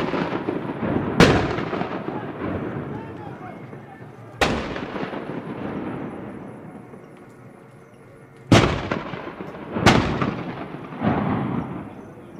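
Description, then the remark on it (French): Dozens of gunshots are fired at night in a village, volleys following one another without pause for long minutes. Each sharp blast is followed by a long rumbling echo, one pair is fired close together, and a busy background din fills the gaps between shots. “Sa voix résonne contre la falaise et des dizaines de coups de feu sont tirés dans la nuit. Les salves s'enchaînent sans interruption pendant de longues minutes.”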